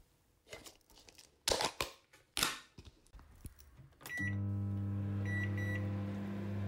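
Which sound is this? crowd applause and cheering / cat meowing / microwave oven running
microwave oven running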